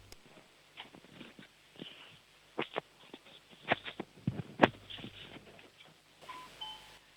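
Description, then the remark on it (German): Shuffling footsteps and handling clatter as a child in Upper Austria goes to show his home doorbell, then at the very end a faint two-note doorbell chime rings once, soft and brief. “Die war leise, aber es war eine Türklingel zu hören.”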